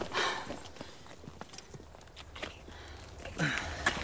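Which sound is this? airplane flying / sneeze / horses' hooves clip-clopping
horses' hooves clip-clopping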